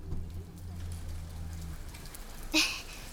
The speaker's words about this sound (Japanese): 嘘でしょ？こんな急に雨が降ってくるなんて。ねえ、君の家で雨宿りさせてくれない？